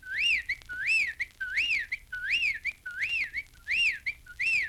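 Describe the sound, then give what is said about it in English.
A whippoorwill in the Florida wilderness calls over and over in a steady rhythm, each clear whistled phrase sweeping up and down in pitch, repeating about every 0.7 seconds with no voices present. “That was a whippoorwill.”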